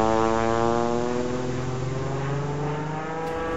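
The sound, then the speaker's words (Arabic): A small propeller aircraft, sent up to scout where others are located, drones steadily, its buzzing engine tone holding level with a slight drift in pitch and no voices over it. “هيا أيتها الطائرة، حلقي لنكتشف أماكنهم.”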